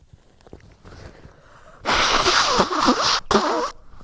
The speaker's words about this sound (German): ich muss mal kurz gucken, ob ich Nase putzen kann. Also ist nämlich gerade so viel.